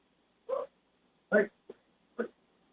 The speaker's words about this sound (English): One of our dogs was barking.